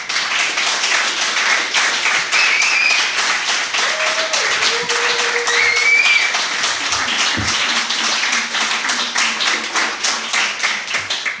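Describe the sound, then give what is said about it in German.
A crowd claps once more on request while a video is being recorded, applauding steadily for about eleven seconds, a dense, loud wash of many hands clapping, with a few brief whistles and voices rising above it. “Jetzt könnt ihr noch einmal klatschen, bitte.”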